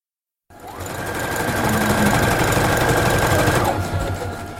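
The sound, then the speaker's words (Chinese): A sewing machine stitches patchwork quilt blankets as about twenty housewives sew at a quilting prayer group in San Diego, California, on a Friday afternoon. It runs steadily for about four seconds, a dense, rapid mechanical whir with a faint high whine that stops near the end. No one speaks. “星期五的下午，走进小绿居拼布祷告施工，您会看到20几个家庭主妇正在忙着缝制一些毯子。”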